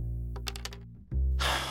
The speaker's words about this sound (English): After many months and many crumpled sheets of paper, Ramon put his pencil down.